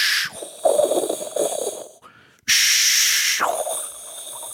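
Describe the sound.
A performer in an astronaut suit, wearing a helmet and headset, imitates Darth Vader's mechanical, hissing breaths: a low rasping inhale, a pause, then a loud airy exhale with a harsh, filtered hiss, like breathing through a mask.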